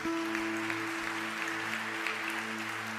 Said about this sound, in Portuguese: Pode aplaudir o Senhor que é bom.